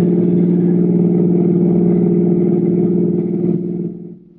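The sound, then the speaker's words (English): A car engine drones steadily as the car drives towards the George Washington toll bridge across the Hudson River, a loud, continuous low hum that holds even for several seconds before fading away at the end. “Julius Siegel, drove towards the George Washington toll bridge, across the Hudson River in Siegel's car, with the third criminal, Bud Aldridge, following in their own car.”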